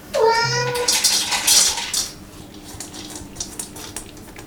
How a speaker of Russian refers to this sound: Кормушка для кота. Хозяин демонстрирует ее в работе. Алиса, покорми Досика.